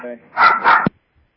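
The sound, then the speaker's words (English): A dog lets out two quick, sharp barks in close succession, loud, followed by a soft thump and then quiet. A brief trace of a voice comes just before. “I'll put him right through before our dog gets mad.”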